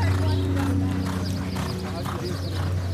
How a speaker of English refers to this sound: At Los Alamitos, there are races weekend nights. And every Saturday morning, you can watch the trainers run their horses.